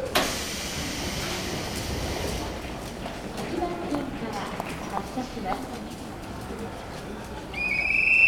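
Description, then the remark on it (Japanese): A train pulls into a station during the evening commuter rush with a steady rumbling roar and rhythmic clacking, ending in a high-pitched brake squeal as the noise swells louder, with faint background voices. “あ、電車来たみたい。”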